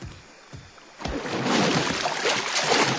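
An inflatable dinghy moves through water beside a wall, with quiet lapping at first, then a louder, steady rush of splashing and sloshing as someone hops out into the water. There is no talking.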